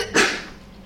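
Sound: sneeze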